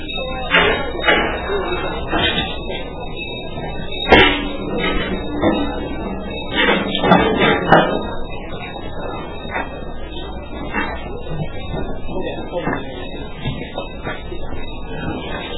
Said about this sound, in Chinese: 啊，这边还有椅子，我们再把椅子往前面拿就好。帮我把那两把椅子。